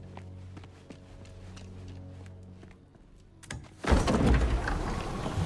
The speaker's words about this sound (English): They both glance at the door. Atreus answers door.